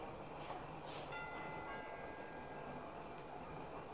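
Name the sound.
doorbell ringing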